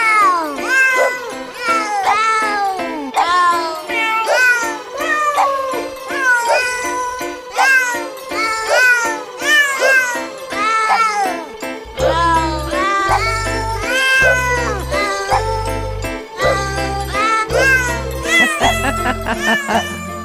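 Rapid cat meows pitched and sequenced into a bouncy melody, dense and continuous, with a thumping low beat joining about halfway through and carrying on to the end.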